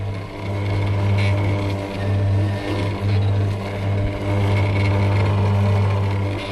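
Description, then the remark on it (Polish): An old Frania washing-machine motor, converted with a few tubes into a potter's wheel, runs with a steady, loud low hum and a constant whirring drone, holding an even pitch throughout with slight fluctuations. “A można włączyć? Jak ta frania przerobiona na koło garncarskie?”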